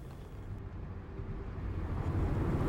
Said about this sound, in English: I am in the car. I'm on driving from Terre Haute to back to Indianapolis to get home.